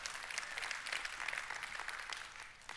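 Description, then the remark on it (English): Steady applause from an audience fills the whole stretch, a dense wash of many hands clapping at once, fairly loud and sustained without pause, with no voices over it. “I was wondering which one is going to get more applause.”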